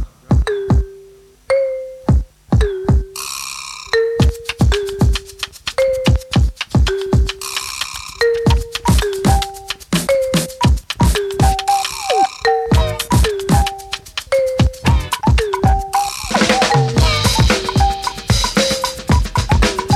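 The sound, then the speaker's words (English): A composition for musical bells, violin and bass drum: struck bells ring short melodic notes over steady, sharp bass drum hits, with bowed violin tones weaving through. The hits come in a fast irregular rhythm, loud, with no voices. “The next composition employ musical bells, violin, and bass drum.”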